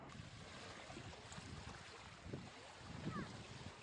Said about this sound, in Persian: صدای موجت دریا برایم شعر زیبایی است، پر از راز و پر از لذت، همانند معمایی است.